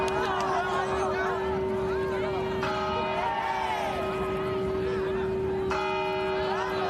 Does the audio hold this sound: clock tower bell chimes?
yes